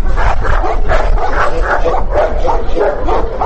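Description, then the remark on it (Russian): Several dogs at an animal protection shelter in former car repair shops bark together at a visiting reporter in a loud, overlapping chorus of yips and barks, repeating rapidly and continuously with no pauses. “Только несколько собак, что встретили корреспондента дружным лаем.”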